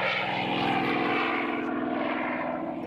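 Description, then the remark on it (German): A small propeller plane's engine roars steadily at full power, a loud continuous buzzing drone with a strong harmonic hum, as the aircraft takes off on a December day, with no voices. “als sich die D-Ente mit Michael Jimek am Steuer in die Luft erhebt”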